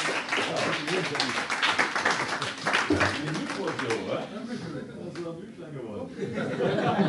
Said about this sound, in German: Einmal Applaus für ihn, herzlichen Glückwunsch.